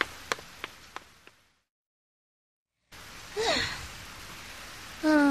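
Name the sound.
heavy rain falling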